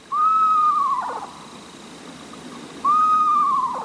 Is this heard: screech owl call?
yes